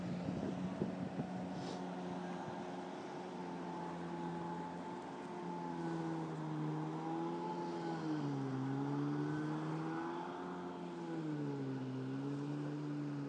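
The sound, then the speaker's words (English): A boat engine drones steadily on a river at low tide, its low hum rising and falling in pitch as it labours through the water, with a faint wash of wind and water underneath. “It sounds as though the boat is making quite heavy progress through the water, or making heavy work and making progress through the water.”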